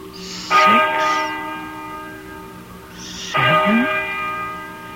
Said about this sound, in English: Listen to that bell.